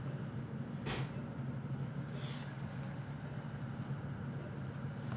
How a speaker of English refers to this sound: Again, the train looks quite empty today. I think there's probably 10 of us or so.